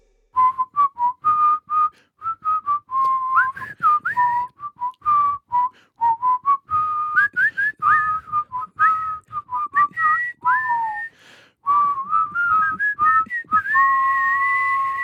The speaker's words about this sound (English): Yeah, there's like that was actually quite a lot of whistling.